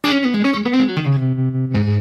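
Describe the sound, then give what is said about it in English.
An electric guitar (Telecaster model on a Variax, through a Fender Vibralux amp model with vibrato, plus tremolo, reverb and compression) plays a short melodic phrase of several notes, settles into a sustained lower note, then strikes a fresh chord. It is loud and alone, with no voices. “I put a little tremolo on it.”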